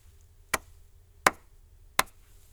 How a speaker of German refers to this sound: Merken Sie sich eine kurze Rhythmusfolge, die ich mit meinen Händen klatschen werde. Klatschen Sie die Rhythmusfolge anschließend nach. Wir beginnen ganz einfach. Hören Sie gut zu.